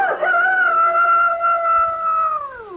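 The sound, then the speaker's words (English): A rooster crows once in a long, loud, sustained call that holds steady for a couple of seconds before dropping in pitch at the end, with no talking. “Never again will anyone get me to sing with my eyes closed. For a rooster who closes his eyes when he should be watching”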